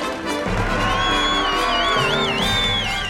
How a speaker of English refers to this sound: People are lining the street, applauding and cheering their brave country mice.